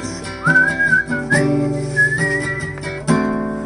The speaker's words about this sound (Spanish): Se la sabe, no crean que está chiflando porque no se la sabe.